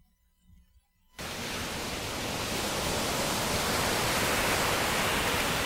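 After a second of near silence, loud ocean waves rush in abruptly, becoming a steady roar of surf that continues without breaks or voices.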